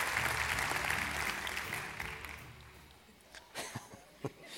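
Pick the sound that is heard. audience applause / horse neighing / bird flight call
audience applause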